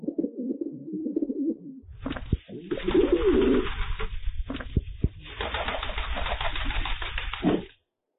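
A pigeon coos in low, throaty, rolling burbles for a couple of seconds, then gives way to loud, busy rustling and flapping noises that carry on to the end.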